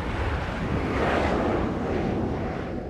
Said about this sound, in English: Outside, the plane carrying the vaccines begins approaching.